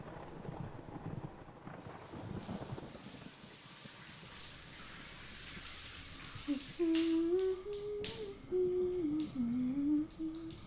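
shower water running

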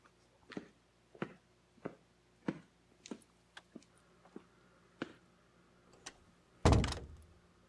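door shutting

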